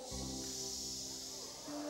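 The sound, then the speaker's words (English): During a sermon, a man's voice makes a long, steady "shh" shushing sound, a breathy hiss lasting nearly two seconds, with a low sustained hum or tone running underneath. “When there's uprising in your life, he can go shh.”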